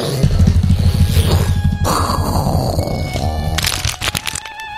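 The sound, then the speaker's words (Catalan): A loud, sharp crack of thunder splits the air right after a lightning flash at night, followed by a rough, rumbling roll with crackling bursts that stays heavy before breaking apart into sharper, sputtering pops toward the end. “Va ser en aquell moment que va haver un llampec i acte seguit el tro més fort que havia sentit mai a la vida.”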